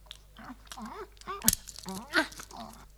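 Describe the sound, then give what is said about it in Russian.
A dog crunches on bones: a few sharp, loud crackling bites stand out, mixed with softer chewing and murmured vocal sounds throughout. “О, ой, какие тут замечательные кости.”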